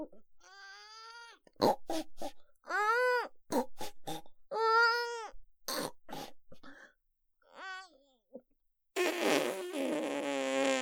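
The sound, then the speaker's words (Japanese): A voice imitates a pig with a rapid string of loud nasal snorts and grunts while defecating, some short and clipped, some drawn out, ending in a long, rough sputtering noise. “よく脱糞、ブヒブヒ豚鼻脱糞。”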